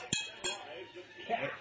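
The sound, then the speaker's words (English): Glasses clink together in a toast at Rick's Martini Bar, two bright, quick taps, followed by faint murmuring voices in the background. “Cheers!”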